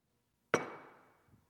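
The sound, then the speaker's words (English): A single sharp clink of an old ceramic water glass that sits by a sink being set down or tapped, with a bright ringing tone that fades over about half a second, then a faint soft bump. “I have an old water glass that sits by my sink.”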